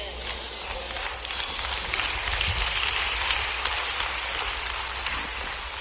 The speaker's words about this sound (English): Claps are getting lower and lower. Y'all don't know when to clap, when not to clap.